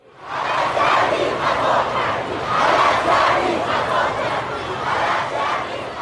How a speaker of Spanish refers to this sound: Por eso miles de personas salieron a la calle a gritar cosas como esta.